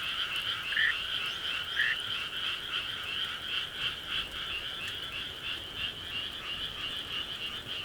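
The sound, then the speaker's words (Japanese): A dense chorus of many frogs croaking together in the rain, a steady overlapping trill that fills the scene continuously at moderate loudness with no voices. “つまりカエルたちのとても優しい気持ちがこうなっているのでした。”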